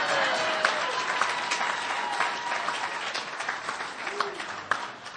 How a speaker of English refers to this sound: You can clap again if you want. It's okay.